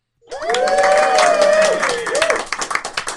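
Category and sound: sound effect, applause sound effect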